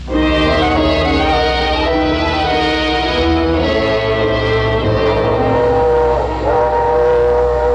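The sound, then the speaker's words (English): A passenger train rumbles along steadily with a deep low-end roar, while a loud, sustained multi-tone whistle blares over it for several seconds, continuous with no talking. “The package was light and the drawing room and the train was comfortable.”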